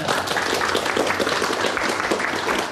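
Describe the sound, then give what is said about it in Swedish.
A steady burst of applause from a crowd for the person who came up with the name HIFton, many hands clapping densely and fairly loudly for a few seconds, with no clear voices standing out. “Och han borde få en applåd för det, för jag tycker det är ett fantastiskt namn.”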